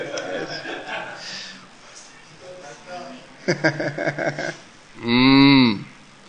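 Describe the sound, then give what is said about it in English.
A person does a loud, drawn-out vocal imitation of a cow's moo near the end, preceded by murmured voices and a burst of quick laughter. “what do cows sound like? Someone did a good cow.”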